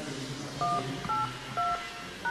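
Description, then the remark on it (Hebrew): Four short dual-tone telephone keypad beeps, spaced about half a second apart, as digits of a password are punched in over a faint, steady background hiss. “נא הקישו את הסיסמה שלכם, ואחר כך תולמית.”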